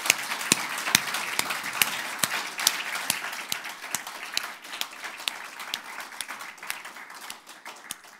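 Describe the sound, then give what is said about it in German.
A crowd applauds for Jesus after a prayer, many hands clapping in a dense, continuous patter with a few sharper claps standing out, holding at an even moderate level for several seconds without voices. “Lass uns doch mal einen richtig fetten Applaus mal wirklich für Jesus geben.”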